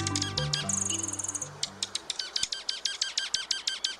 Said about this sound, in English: If you like drama, watch the juncos at your bird feeder. These small brown birds will get quite feisty around food.